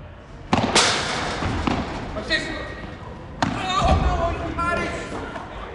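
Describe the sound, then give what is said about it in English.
Sharp, hollow thwacks of a padel ball being struck as people play padel at lunchtime, several hits at an irregular rally pace, with faint voices calling out between shots. “At lunchtime, you get lots of people playing paddle. That's a crossover between tennis and squash, and I got to see it in action.”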